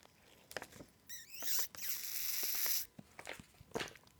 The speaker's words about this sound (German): Capri-Sonne, nervigstes Geräusch mit ihrem und so, das Knistern.